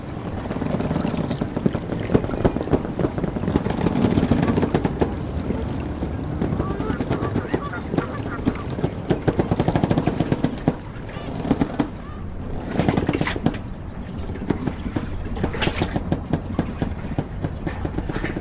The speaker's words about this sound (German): Wirkt der Rhythmus des Hafens eher ernst als spielerisch. Tüchtig, aber auch alles andere als fix. Die Elbe in ihrem Auf und Ab ist der Puls. Ich mag diese Soundscape.